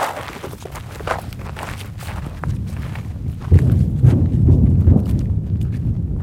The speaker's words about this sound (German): Um einen Eindruck zu bekommen, wie sich dieser Krieg anhört und wie er aussieht, muss man erst einmal marschieren. Es geht über dorniges Gestrüpp auf einen Hügel. Zum Grenzzaun nach Gaza ist es Luftlinie nicht einmal ein Kilometer.